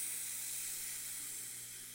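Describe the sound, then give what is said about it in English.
A steady, unbroken hiss of white noise, the sound heard when hitting record, bright and airy, holding at an even level for the full two seconds with no voices or other sounds. “It's just that sound that you hear when you hit record. It's nothing. White noise is what they call it.”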